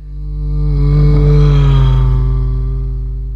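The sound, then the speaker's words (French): A vehicle engine roars past, its steady hum rising to a loud peak and then dropping noticeably lower in pitch as it moves away, the Doppler effect. “Cet effet qui fait paraître le son de la sirène d'une ambulance ou du moteur d'un véhicule, plus aigu lorsqu'il s'approche de nous et plus grave quand il s'éloigne.”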